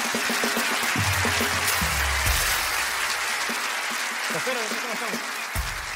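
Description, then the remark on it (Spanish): A crowd applauds steadily for several seconds, a dense, even wash of clapping with a few voices and cheers mixed in underneath. “Un aplauso para ellos.”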